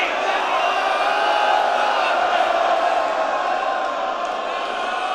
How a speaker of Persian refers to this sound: زنها فریاد بزنن، فریاد بزنید.